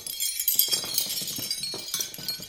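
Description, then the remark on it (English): Metal medals jangle and clink together in a quick, irregular cascade of bright, tinkling chimes, sustained for a couple of seconds with no one speaking over them. “That's all medals.”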